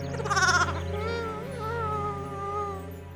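A sheep bleats in one long, wavering cry lasting about three seconds, starting with a brief harsher burst before settling into a steady, quavering, mid-pitched call. No one speaks.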